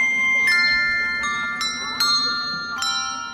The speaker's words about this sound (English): Elementary school children sang carols. There were bells